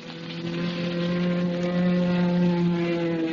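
A loud, steady drone of propeller airplane engines during a staged dogfight filmed for a movie sequence. The sustained, humming roar holds nearly constant in pitch for a few seconds, with no voices.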